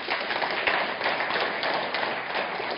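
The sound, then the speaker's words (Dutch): A crowd applauds steadily, many hands clapping in a dense, continuous patter at moderate volume, with no voices cutting through. The applause is for the programme's Twitter editorial team during a live evening event. “Ze zitten hier, graag een applaus voor hen.”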